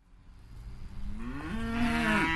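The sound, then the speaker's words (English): A cow, one of a handful of cattle on a farm, lets out a long, rising moo that swells in loudness over a couple of seconds, with low rumbling farmyard background beneath it. “A handful of cattle are the first thing a visitor sees when arriving at Pinchbeck's Rose Farm.”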